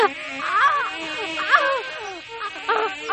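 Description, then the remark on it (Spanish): A dense, steady buzz of a swarm of wasps pouring out of cut gourds, fairly loud, while voices shout in panicked bursts over it. “¡Auxilio! ¡Serpientes! ¡Avispas! ¡Fuera! ¡Fuera!”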